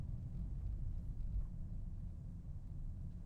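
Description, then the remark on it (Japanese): A steady, low engine rumble fills the inside of a car at a convenience store, a constant muffled drone with no voices and no change in level. “ああ、車の中で。”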